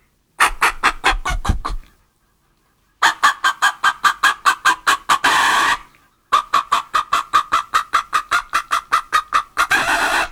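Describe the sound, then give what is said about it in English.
A person imitates a clucking chicken, loud, with three bursts of rapid, evenly spaced clucks separated by short pauses. “I don't know if I can get the chicken or not.”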